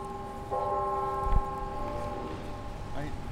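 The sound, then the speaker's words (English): The NIU university clock tower bells, about an hour west of Chicago, chime by the campus garden, their tones ringing and overlapping in a sustained wash, while faint voices murmur in the background toward the end. “He shows off the free-to-pick gardens as the university's clock tower chimes.”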